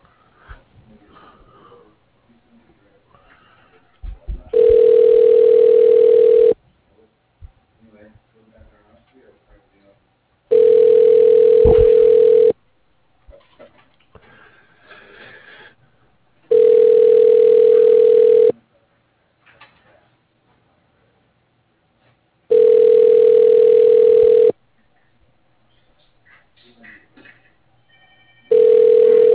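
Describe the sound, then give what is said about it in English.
A telephone line ringing out: five loud, steady ringback tones, each about two seconds long and evenly spaced, with faint murmuring voices in the quiet gaps between rings. The call is being put through to an office phone. “I don't believe he is, but let me ring his office for you, okay?”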